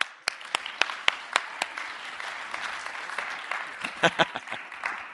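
An audience breaks into applause, a dense wash of many hands clapping with a few sharp, distinct claps standing out, holding steady for several seconds without any speech.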